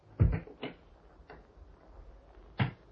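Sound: clock ticking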